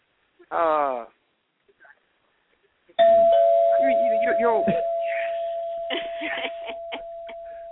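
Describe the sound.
A doorbell chime signalling an incoming caller strikes and rings out with a long, steady, slowly fading tone while a man talks over it; a short burst of voice comes just before.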